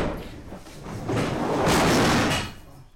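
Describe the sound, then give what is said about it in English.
Stacked tables in a small church classroom topple over with a heavy, rumbling clatter and thud, a loud scraping crash swelling for about a second before settling, with no voices. “He drags the chairs into rows along the back of the room, but his plan to stack the tables does not go as well.”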